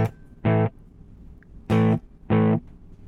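A tape echo on a distorted, buzzy electric tone, with the echo level turned up and set to a single repeat: three short, loud bursts, the last two close together like a note followed by its single echoed repeat. No one speaks.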